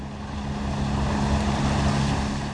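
A small motorboat engine drones steadily as the boat speeds across the Tennessee River to Williams Island near Chattanooga: a constant low hum with rushing water and wind noise, no voices.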